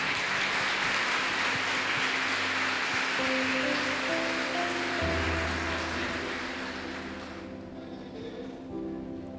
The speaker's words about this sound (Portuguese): Você pode dar um beijo na sua Bíblia e aplaudir bem forte o nome de Jesus nessa noite.